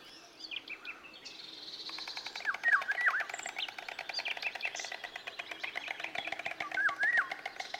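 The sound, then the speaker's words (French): Several summer-breeding migratory birds sing at once at Cabañeros in a busy, overlapping chorus of chirps, trills and whistled phrases, steady throughout, with a faint outdoor background. “Tu peux voir un troisième groupe d'oiseaux migrateurs de Cabaneros. Il s'agit des oiseaux nicheurs d'été.”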